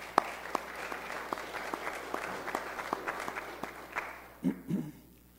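A church audience applauds a soup supper that served 125 people and raised over $700. The steady applause lasts about four seconds, a dense patter of many hands clapping at moderate volume. Then the clapping fades out and a couple of brief low voice sounds follow.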